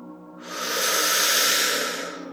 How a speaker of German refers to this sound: Und wir atmen ein.